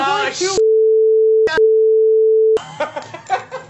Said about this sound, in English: You have to beep one of those words.